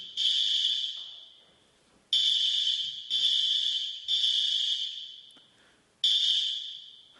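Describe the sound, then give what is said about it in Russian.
A loud, shrill electronic alarm goes off as it is being checked, in a series of long, high-pitched blasts. Each one starts abruptly and gradually fades before the next, with no talking. “Сейчас проверю сигнализацию.”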